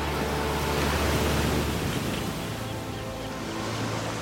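A steady, rushing roar of sea waves washing onto a huge expanse of beach with pebbles and sand, with no voices, the surf noise continuous and fairly loud throughout.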